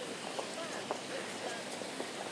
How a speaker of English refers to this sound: People's footsteps all around me. Most people heading in the direction of Waterloo.